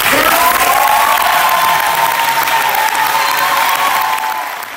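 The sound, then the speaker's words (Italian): An audience made up largely of young artists at the Premio Istrio award ceremony at the Elfo Puccini in Milan bursts into sustained, loud applause after a statement by an awarded company, with cheering and whistles riding over the steady clapping, holding strong before easing slightly at the end. “Così il pubblico, tra l'altro composto da moltissimi giovani artisti, ha accolto una delle dichiarazioni che gli artisti premiati al premio Istrio ieri sera all'Elfo Puccini di Milano hanno ritenuto di fare, in questo caso la compagnia Usine Baug,”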